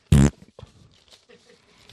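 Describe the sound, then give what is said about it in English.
A single short, loud fart noise, a buzzy rasp lasting about a quarter second, followed by quiet, indistinct talking in the background. “I mean, yeah, insert fart noise.”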